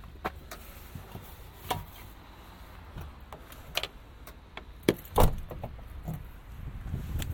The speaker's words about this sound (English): Oh, neighbour's car sounds rough.